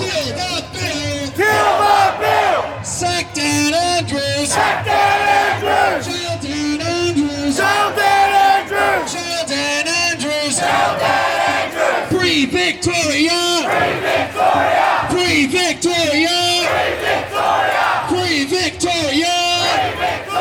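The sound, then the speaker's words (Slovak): A large protest crowd marching through a city with a police escort, demanding repeal of a pandemic law and the dismissal of Premier Daniel Andrews, shouts and chants together in loud, continuous rhythmic bursts, many voices overlapping for the whole stretch. “Dav sprevádzaný políciou pochodoval mestom a požadoval zrušenie kontroverzného pandemického zákona, prepustenie premiéra Daniela Andrewsa, ktorého zároveň, ako doslova kričal dav, treba dať do väzenia, čím sa, citujem, oslobodí Viktória.”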